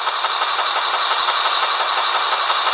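Washing machines with laundry turning run in a laundromat with its door open, a steady mechanical whirring drone with a faint regular pulsing, loud and unbroken, with no voices.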